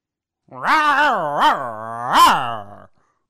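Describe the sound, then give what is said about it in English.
A person imitates a dog's growl: one sustained, throaty vocal rumble lasting a couple of seconds, swelling upward in pitch twice, close to the microphone and fairly loud, with no other talk. “A dog.”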